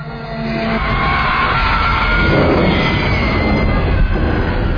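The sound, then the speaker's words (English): The tower of Barad-dûr collapses, shaken by the scream of Sauron's Eye, in a loud, sustained roar of organic human and animal screams mixed with groaning, straining metal tones woven through a dense rumble that holds steady for about five seconds. “It's really a mixture of organic human animal screams mixed with metallic, groany, straining sounds.”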